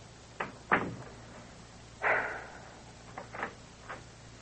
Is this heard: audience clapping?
no